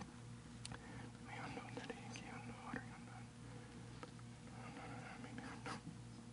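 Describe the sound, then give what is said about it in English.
Soft papery rustles and swishes of many Bible pages turning at once as people look up 2 Corinthians 10, scattered irregularly over a steady low hum and faint murmuring, with no clear speech. “I hear pages turning.”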